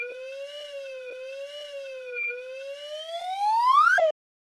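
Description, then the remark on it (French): A slide whistle plays one continuous reedy tone that wobbles gently, then glides steadily upward in pitch, growing louder before cutting off abruptly with a quick downward blip, standing in for a chart of the inflation rate's change over the past two years. No voices. “Mais comme les graphiques ne se traduisent pas bien en balado-diffusion, le son de ce sifflet coulissant vous donnera une idée de ce à quoi ressemblerait le graphique.”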